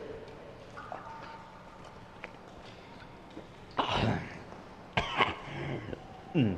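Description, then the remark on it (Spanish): A man coughs in three harsh, raspy bursts spaced about a second apart, each loud and rough, after a quieter stretch of low background murmur. “Esta tos no es nada.”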